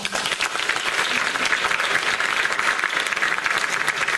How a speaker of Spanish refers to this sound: Porque el Señor no te quiere la fuerza, pero si te quieres quedar, dale un aplauso al Rey.